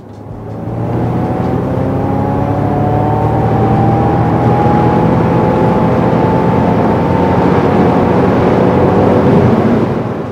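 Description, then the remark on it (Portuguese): An electric car accelerates from a standstill with its synthetic engine sound switched on: a loud, steady hum of layered tones that climbs slowly in pitch for about ten seconds, with no one speaking. “Essa primeira arrancada foi com o som desligado e agora vamos fazer com o som ligado.”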